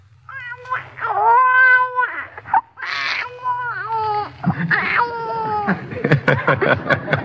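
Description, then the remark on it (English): Thin, strained newborn-style crying, probably a voice imitating it: several short wavering wails with brief gaps, ending in choppy sputters and little coughs, fairly loud, with no talking. “A newborn baby is very weak and can't do anything much but just cry and sputter and cough a little, like this.”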